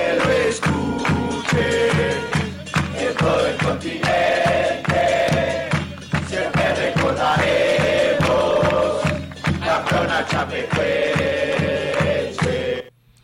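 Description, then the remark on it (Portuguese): A huge stadium crowd of Atlético Nacional football supporters chants in unison in support of Chapecoense, loud, with rhythmic pulsing beats and sustained sung phrases rising and falling throughout. “Aí há o grito da torcida do Atlético Nacional, que se escuta em todos os continentes.”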